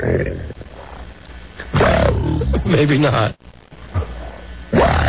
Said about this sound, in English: All right, now here's one that maybe we could use. It says monster growling.